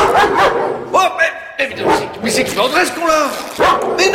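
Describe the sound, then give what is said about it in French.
A dog with small red eyes in the back of a cellar barks and yips in short, loud bursts, tangled up with a man's agitated, shouting voice that talks over and between the barks. “Mais c'est pas mon cochon, c'est un chien!”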